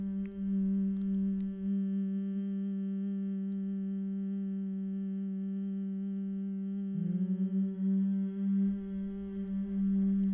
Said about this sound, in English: Continue to breathe in through the nose with the eyes closed in your own time and allow the exhale to hum at the front of the mouth.